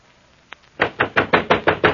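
Loud, rapid pounding on a wooden door, about eight heavy knocks in a steady insistent rhythm, preceded by a single faint tap, with no voices.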